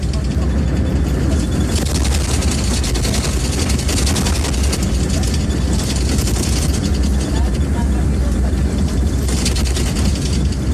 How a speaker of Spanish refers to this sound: El sonido de esas vibraciones de los trenes, la verdad es que es